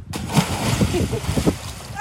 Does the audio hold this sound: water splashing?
yes